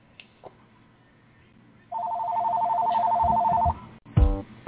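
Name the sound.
telephone ringing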